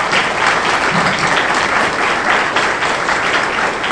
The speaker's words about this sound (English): How many of you are veterans? Let's give you a round of applause.